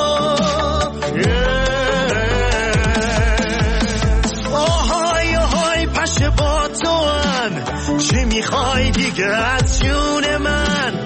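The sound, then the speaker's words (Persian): A loud, continuous mosquito-like whine buzzes and swoops up and down in pitch for the whole stretch, layered with a busy musical backing and no talking. “که میخوای وز بری وز بیای بخوری هی از خون من، پشه پشه برو راحتم بذار، چرا نمیذاری من بخوابم؟”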